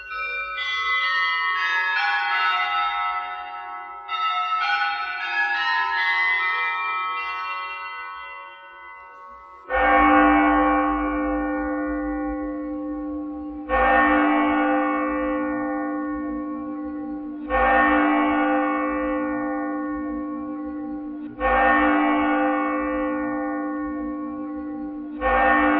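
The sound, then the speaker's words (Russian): Russian church bells ring alone: a cascade of lighter, shimmering bell tones gives way to a deep, heavy bell struck about every four seconds, each stroke humming out in a long resonant decay. “Для мощи, потому что колокол – это особый инструмент, не инструмент наших эмоций, это инструмент всемогущества Божия.”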